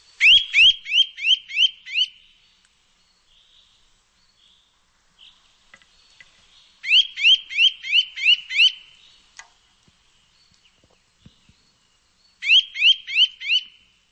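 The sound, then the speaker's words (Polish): A Eurasian nuthatch calls in three bursts of rapid, ringing notes, five or six quick high whistles per burst, loud and clear, separated by long quiet gaps with only faint ticks between. No one speaks. “Tak, mogliśmy przed chwilą usłyszeć dźwięk kowalika.”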